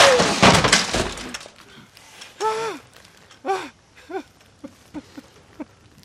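A loud burst of smashing and shattering, like glass and objects breaking, as a man in a rage trashes everything in a garage, fills the first second and a half, followed by a string of strained, panting grunts that grow shorter and quieter.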